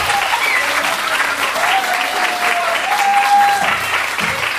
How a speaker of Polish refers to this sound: Drodzy państwo, właśnie ostatnie wielkie, wielkie brawa dla wszystkich uczestników pierwszego gminnego konkursu Mam Talent Show. Brawo, brawo.